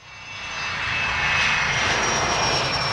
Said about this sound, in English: As modern commercial airplanes took off